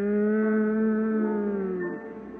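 A group of voices hums a slow hymn melody in unison, a sustained, mellow tone that holds steady and then slides down to a lower note near the end.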